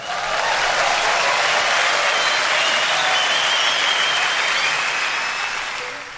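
Dense, steady recorded applause played from a tape, a continuous crackle of many hands clapping at full strength for about six seconds before tapering slightly at the end, with no voices over it.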